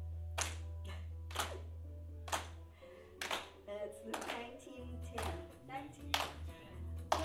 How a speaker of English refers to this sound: Oh, now what do they do? They clap here.